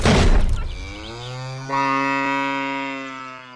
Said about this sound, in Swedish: Och medan vi pratat har du passat på att spänna upp en ko här bakom oss. Ska vi ta och släppa iväg den för att låta lyssnarna ta del av hur det går till? Ja visst, jag trycker bara på knappen här.